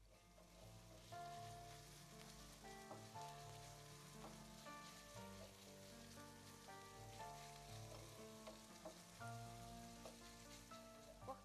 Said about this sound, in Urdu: قیمے کو بس اتنا بھونا جاتا ہے کہ اس کا پانی خشک نہ ہونے پائے اور گوشت کی نمی اپنی جگہ برقرار رہے.